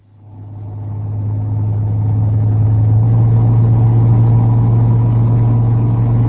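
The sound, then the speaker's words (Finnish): A brown US Army helicopter powering up for takeoff from an open clearing by a river, rotors raising clouds of sand: a deep, droning engine roar swells over the first second or two, then holds steady and loud with a heavy low hum and broad rushing noise. “Hiekka pölisee pilvenä, kun helikopterin potkurit alkavat nostaa tätä ruskeata sotalintua kohti korkeuksia.”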